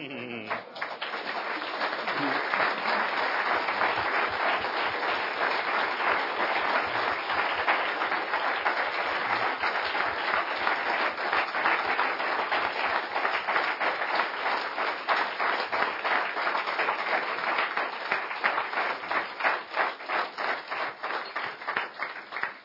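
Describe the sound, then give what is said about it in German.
A large audience applauds steadily for over twenty seconds, dense clapping that stays loud throughout, thinning slightly into more distinct claps near the end. “Der Applaus spricht für sich.”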